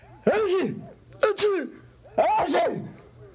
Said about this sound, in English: Carrying on an intelligent conversation with Drover is hard enough under the best conditions, but when we're both sneezing, it's very near impossible.